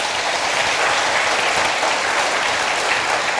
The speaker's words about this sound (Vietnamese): Phần lớn là đi chùa rồi, cho một tràng vỗ tay thật lớn để tán dương.